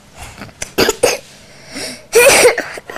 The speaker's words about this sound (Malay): Ini batuk.